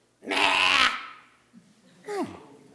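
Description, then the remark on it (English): A person imitates a goat with a loud, quavering, nasal bleat of about half a second, then after a pause gives a shorter, fainter cry that slides downward in pitch. “Does that sound like a goat?”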